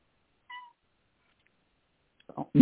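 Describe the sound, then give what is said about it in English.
A single brief, faint cat meow sounds, followed by silence and then the start of a person talking at the very end. “I like that the cat makes a noise in the background.”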